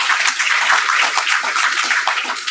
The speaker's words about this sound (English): And I can tell you, that does deserve a round of applause.